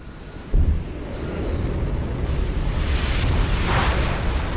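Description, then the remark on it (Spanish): A deep, continuous roar of rocket engines lifting off from a launch pad kicks in abruptly after a brief lull and rumbles on loudly and steadily, a dense low-heavy blast with a crackling hiss on top. “Escucha el sonido de los cohetes rugiendo y despegando e imagina que estás de pie en la plataforma de lanzamiento.”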